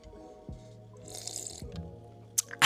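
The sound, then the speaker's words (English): Quiet slurping and liquid sounds of someone sipping wine from a cup, with a soft gulp in the middle and a couple of sharp little clicks at the end. “let me take a sip of my wine.”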